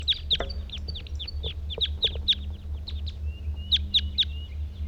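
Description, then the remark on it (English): Two male birds in a treetop, one calling and one singing: a steady run of sharp, high chirps in quick uneven bursts, with a thin whistled note slipping in partway through, all over a low constant hum. “Two males in the treetop. One's calling, one's singing.”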